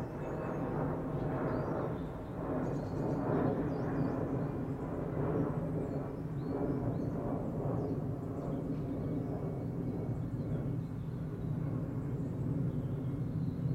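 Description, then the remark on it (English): A jet plane rumbles overhead with a steady, deep roar that holds at a moderate level throughout, heard outdoors in a garden in the morning with no one speaking. “Can't see me standing in the garden this morning. It's probably the same guy that flies over at the same time every morning, like the bus on the road.”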